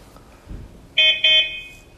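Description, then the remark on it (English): A toy robot gives a bright, loud electronic beep as its front left-hand button is pressed, briefly broken into two quick tonal pulses, preceded by a soft low thump; no one speaks. “That was one beep, so now he's waiting for the second beep.”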